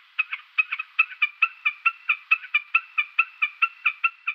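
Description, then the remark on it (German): A common snipe's song: a steady, rhythmic series of clipped, nasal double notes repeated about four times a second, clear, with no voices or other sounds. “Und fang an mit einem Gesang von dem Vogel, den man vielleicht noch nicht so kennt.”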